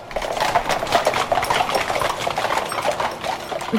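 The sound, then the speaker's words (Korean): Rattling carriage wheels produce a steady, dense clatter of rapid rough knocks that barely lets up for the whole stretch, fairly loud, with no voices over it. “덜컹거리는 마차 바퀴소리 들리지?”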